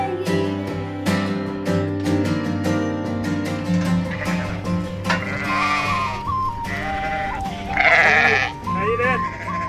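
Sheep bleat repeatedly, their wavering, quavering calls overlapping and growing louder toward the end, with a dense, busy background beneath them.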